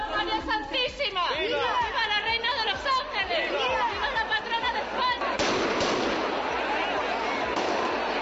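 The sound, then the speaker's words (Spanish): A festival crowd chatters and shouts while sharp shotgun blasts crack out in quick succession, then a dense, continuous roar of massed gunfire takes over for the last few seconds. Festival in Torrejoncillo on 7 December, eve of the Inmaculada feast, with 120 shotgunners and about 150 riders in white sheets accompanying the Inmaculada banner. “Bueno, pues allí se dan cita 120 escopeteros y unos 150 jinetes cubiertos con sábanas blancas para acompañar al estandarte de la Inmaculada en la víspera de su celebración.”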